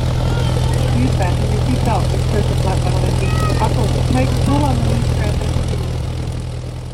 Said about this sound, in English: Oh, how I do love a good plane ride